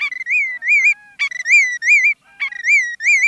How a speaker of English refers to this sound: Their sweet songs fill the warm air. Songs such as those of McCown's longspur, lark bunting, and the willet.